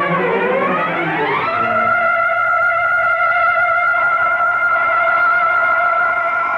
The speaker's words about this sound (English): It's your alarm to wake you up. Turn it off.